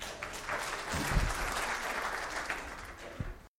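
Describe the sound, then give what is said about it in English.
A steady wash of audience applause, many hands clapping together in a dense, even patter that holds at moderate loudness for a few seconds before cutting off. “All right, let's give him a round of applause, everyone.”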